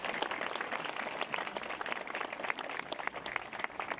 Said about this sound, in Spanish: Acá está su familia, sus hijos, nietos. Le pido un fuerte aplauso para ella, su esposa, que está ahí.